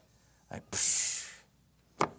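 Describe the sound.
A voice makes a drawn-out, sharp hiss lasting under a second, a scornful noise of disgust made through the teeth, bracketed by short breathy bursts before and after.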